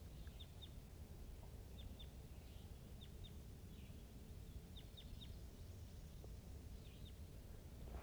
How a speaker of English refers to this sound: This is a wild crossbill to the east of the net side up on the top of the hill calling from the distance.